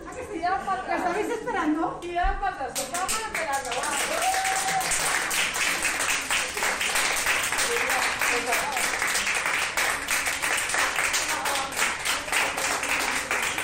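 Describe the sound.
Sustained applause from the ICU team of Hospital Vitas in Valencia as a patient is discharged after 70 days in intensive care, dense overlapping claps running steadily throughout, with voices chattering and cheering underneath at the start.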